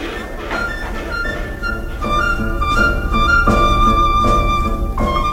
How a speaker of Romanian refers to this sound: Vrei să vezi cum merge locomotiva? Sigur că vreau. Atunci, hai cu mine. Vom merge împreună pe locomotivă până la Saint-Tropez.